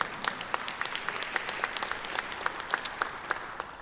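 An audience claps after being asked whether they love Jesus, in a steady, dense patter of many hands, with sharper individual claps popping out above the wash at a fairly even rhythm; moderately loud, no voices.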